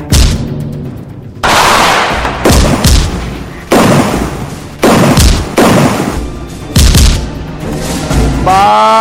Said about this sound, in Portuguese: E mais, bala! Foi bala! Em Rio Tinto, duplo homicídio, bala, tiro!